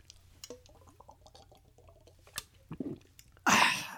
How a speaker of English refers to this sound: Whoa. Aren't you supposed to sip on scotch, not chug it down like that?